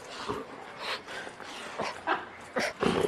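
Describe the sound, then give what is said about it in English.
A female dog tugs and rips at a toy with a squeaker, trying to get the squeaker out while a person holds one end of the toy, snorting, huffing and growling in short bursts with rustling scuffles in between; no one speaks. “Listen to the dog.”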